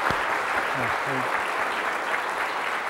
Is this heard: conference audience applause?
yes